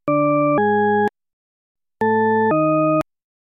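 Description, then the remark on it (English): Two pairs of steady, organ-like electronic tones, each note about half a second, with a pause between pairs. The pitch step within each pair is ambiguous, sounding either upward or downward. “When one tone of a pair is played, followed by the second tone, some people hear an ascending pattern.”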